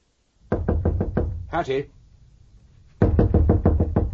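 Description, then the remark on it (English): Two rapid volleys of loud, hard knocks on a door, about half a dozen raps each, separated by a brief spoken exclamation and a short pause. “Open this door at once.”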